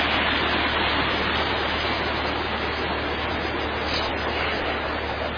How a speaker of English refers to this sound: You can see again this, some of these large waterfalls with this foaming water.